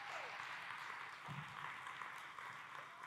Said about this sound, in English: And I want to give a shout out to all the life changers here at New Life Fellowship. Amen. Can we give them a great hand clap for how they serve?